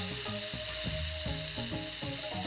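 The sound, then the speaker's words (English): A homemade rain stick, a tube filled with rice and closed at both ends with cardboard circles and sticky tape, makes a steady, dense, hissing patter of tiny grains, running continuously under a simple stepping melody of low tones. “Decorate your rain stick with a drawing.”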